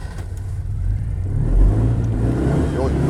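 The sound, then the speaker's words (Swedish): A small two-cylinder, 28-horsepower car engine rumbles and revs, its low, throaty chug swelling louder around the middle before settling into a steady drone, with a brief voice audible near the end. “Nu snackar vi 2 cylindrar, 28 hästar.”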